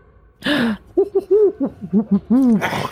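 An owl hoots in a quick, loud series of about eight wavering calls as it flutters up, framed by short breathy rushes of noise at the start and end.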